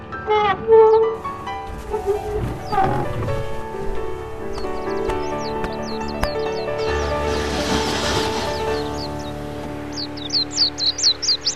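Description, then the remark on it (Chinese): Small birds chirp and trill outside a window in Toronto in spring, in quick, repeated bursts over a soft, sustained musical backdrop, their calls bright, growing busier toward the end. “您听，窗外的小鸟叫得多好听啊。”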